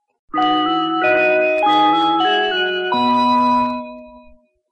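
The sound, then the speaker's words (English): A short electronic chime melody, a call sign for BBC Radio Solent by Delia Derbyshire made with the ring modulator of an EMS Synthi synthesizer: about five sustained, bell-like tones stepping through pitches, metallic and inharmonic, ringing out alone with no voices before fading away. “In this call sign for BBC Radio Solent, also by Delia Derbyshire, she uses the ring modulator to make unusual chime sounds.”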